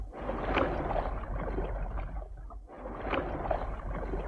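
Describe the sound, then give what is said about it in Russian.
Oars dip and pull through water in two slow, splashy strokes separated by a brief pause, with steady sloshing and gurgling as rowers move a ship's boat along. “Через несколько минут мы уже были в шлюпке, и гребцы опустили весла на воду.”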